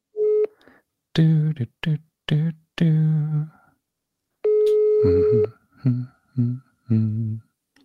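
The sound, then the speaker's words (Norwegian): A telephone line tone from a phone call ringing through to an answering machine sounds in two steady beeps, one short at the start and a longer one midway, with a voice speaking in short bursts around them. “Dette telefonsvareren til 4. Legg igjen en beskjed og spør han hva han synes om Amiga.”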